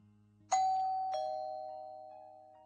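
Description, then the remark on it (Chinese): A doorbell chimes a two-note ding-dong, the second tone slightly lower, ringing out clearly and fading slowly over a faint low background hum. “不一会儿，门铃响了，我忙去开门。”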